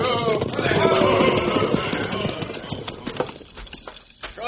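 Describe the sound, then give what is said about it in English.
Several horses' hooves clip-clop in a busy, uneven patter as a sheriff's posse rides up, fairly loud, with a murmur of voices and background bustle early on before the hoofbeats stand out more clearly. “Get down off them horses, boys.”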